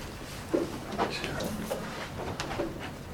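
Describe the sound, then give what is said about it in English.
A chair being shifted into place as one is brought up for a speaker joining a panel at a book talk with an audience: a few soft knocks and brief scrapes spread over a couple of seconds, fairly quiet against a low hum, with faint murmuring in the background. “Oh, you got a chair too?”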